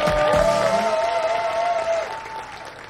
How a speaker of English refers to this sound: Lola walks up and poses. The crowd applauds.